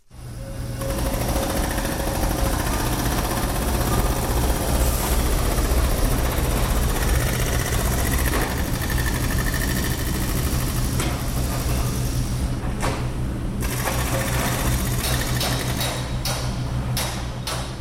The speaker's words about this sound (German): Es ist nicht zu überhören und nicht zu übersehen. Auf dem Messeplatz im Herz vom Gleis Basel tut sich etwas. Über den ganzen Platz verteilt stehen Baucontainer, Bagger sind aufgefahren und rissen den Boden auf.